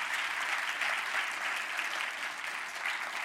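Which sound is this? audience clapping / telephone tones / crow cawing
audience clapping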